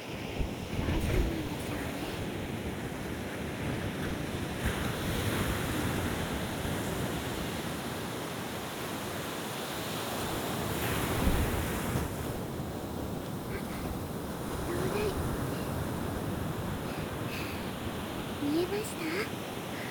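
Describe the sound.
A steady, broad wash of surf rolls in continuously, swelling and easing as waves break, with a gusty, windy edge and faint voices now and then beneath the roar.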